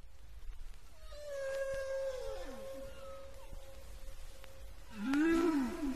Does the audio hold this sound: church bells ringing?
no